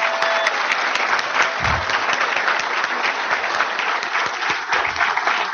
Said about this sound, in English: It gives me great pleasure to introduce our candidates, and please join me in another round of applause for them.